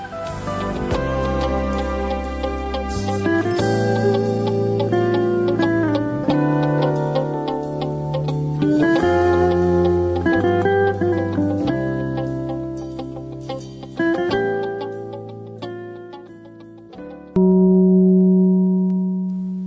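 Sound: radio time signal gong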